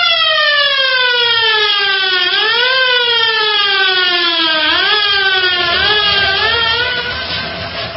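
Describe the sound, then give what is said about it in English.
A loud, continuous siren wails, its pitch slowly rising and dipping in long sweeps, then fading slightly at the end. No one speaks. “Cut the radio, Lin Fu, and sound the siren.”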